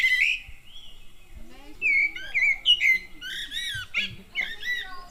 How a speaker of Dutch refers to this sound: Ik hoor iedereen Merel roepen. Ja, dat is goed.